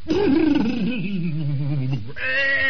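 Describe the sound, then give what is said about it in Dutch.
A person imitates a horse's neigh, a loud, quavering whinny that slides downward in pitch, then ends on a brief higher, nasal note. “Wat voor geluid maakt er zo'n paard nou ook weer? Ik heb het zelf niet gehoord, Salomo. Maar volgens Paulus doet het ongeveer zo.”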